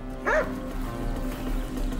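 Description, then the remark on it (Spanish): A single sharp bark from a trained police tracking dog rings out near the start, loud, followed by a steady low background hum with no further calls. “Un perro bien entrenado detectó un olor.”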